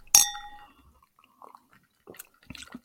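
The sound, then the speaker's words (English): Two cocktail glasses clink together once in a toast, a bright ringing chime that fades over half a second, followed by soft scattered sipping and handling noises. “But so let's take a little sip. Sipsy doodle. Sipsy doodle. Cheers. Cheers.”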